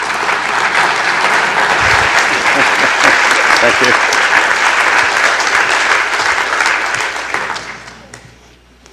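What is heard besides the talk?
audience applause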